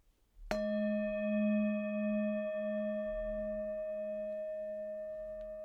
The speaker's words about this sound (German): Und wenn der Gong ertönt, dürfen Sie Ihre Augen schließen und so lange geschlossen lassen, bis der Gong am Ende der Übung wieder ertönt.